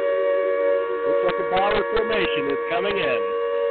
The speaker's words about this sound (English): Yep, our air raid sirens are picking him up. Looks like a bomber formation is coming.